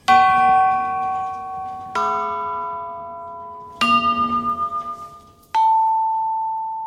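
Four metal chimes are struck one after another, each a different pitch, ringing out clearly and decaying slowly. The third has a pulsing, wavering shimmer as it fades.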